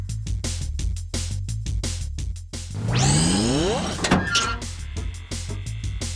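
A car's power window motor whirs for about a second, its pitch sweeping downward, then stops with a thunk. Rhythmic clicking and low tones surround it.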